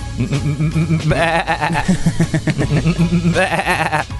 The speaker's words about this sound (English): Somebody's there with a crook and they're just herding the sheep.